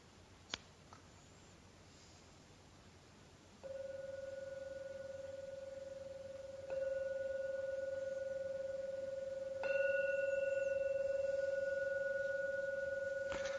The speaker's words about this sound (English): Now ring the gong 3 times. Please listen to every sound from the gong. And when the last chime vanishes, that's the signal to come out from your meditation.